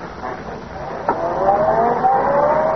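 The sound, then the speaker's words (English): A man who has just got into a car starts it: the engine catches after a brief click and revs up, its steady hum rising in pitch, with no one speaking. “He's getting into the car.”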